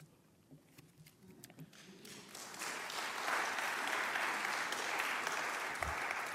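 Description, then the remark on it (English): Audience applause starts as scattered clapping and quickly swells into dense, steady clapping from a crowd that holds loud and sustained to the end. “I've been a thespian long enough to hold for applause.”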